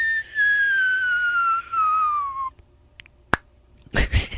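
A fireworks sound effect: a steady whistle slides downward in pitch for a couple of seconds, then goes quiet, followed by a single sharp crack and a short, noisy burst at the end.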